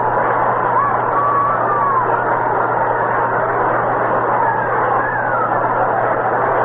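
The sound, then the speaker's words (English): A large baseball stadium crowd, a capacity crowd expected on a Saturday night, fills the air with a steady, unbroken murmur of many voices, with a few faint whistles or calls rising above it and a low constant hum underneath. “A capacity crowd is expected here tonight for this Saturday night Singleton.”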